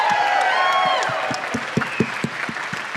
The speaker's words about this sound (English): Give a round of applause one more time for these guys.